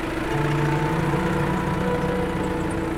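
A steady engine drone with a low, throbbing hum from a tractor driving across a field beneath the solar panels of an agrivoltaic installation in Lower Saxony, Germany, preparing the soil, holding an even level throughout with no voices.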